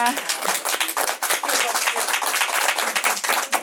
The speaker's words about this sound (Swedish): En applåd.